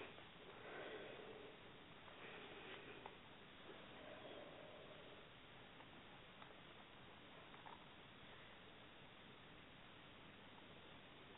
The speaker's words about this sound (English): And three nice deep, deep breaths.